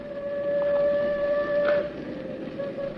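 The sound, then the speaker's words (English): A distant train horn from an approaching train holds one long, steady note with faint overtones over a low rumbling wash, echoing through a canyon. No voices are heard. “The train's almost here. No, not quite, Angel. You can hear it a long way in these canyons.”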